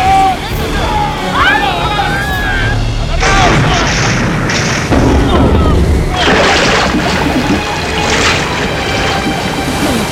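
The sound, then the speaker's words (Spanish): Several loud gunshots crack out at irregular intervals during a boat chase, over a rumbling boat engine and churning water, with shouting voices heard early on and between the shots. “¡Vuelve a disparar!”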